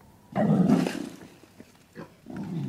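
wild boar grunting

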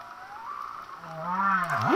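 humpback whale song

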